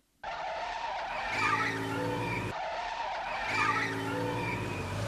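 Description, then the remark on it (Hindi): A car engine roars while tires screech in a long, loud skid as a car follows in pursuit; the surge and squeal happen twice in a row with no talking. “जब से हम बाहर निकले हैं एक गाड़ी हमारा पीछा कर रही है।”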